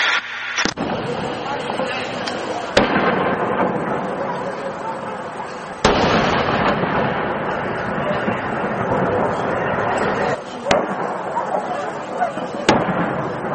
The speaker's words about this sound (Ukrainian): Чуємо тривожних собак, чуємо навіть людей і чуємо артобстріл.